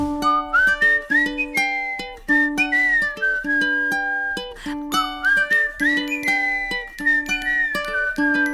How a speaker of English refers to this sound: I whistle as I walk, a lovely smell of crumbs and cocoa wafting out of the baker's door.